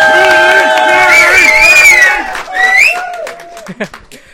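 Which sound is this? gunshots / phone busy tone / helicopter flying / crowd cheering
crowd cheering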